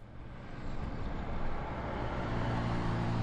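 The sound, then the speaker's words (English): Steady traffic on Highway 101 in Sonoma County roars continuously during weekday evening commute hours, a dense low rumble of southbound cars speeding past, swelling slightly louder toward the end with no voices. “During weekday evening commute hours, cars going south in Sonoma County speed down Highway 101.”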